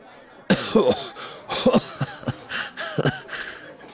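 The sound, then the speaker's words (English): A man coughs raspily just after downing a shot of liquor: several harsh, throaty coughs in quick clusters over a few seconds, with strained, wheezing breaths between them and no talking. “Immediately, he began to cough.”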